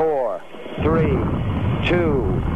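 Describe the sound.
A deep, continuous rocket-engine roar of the Saturn Apollo stack at Apollo 11 ignition, Kennedy Spaceport, Florida, swells up and rumbles steadily under a man's voice calling out over a radio-like channel, loud and broad, filling the low end.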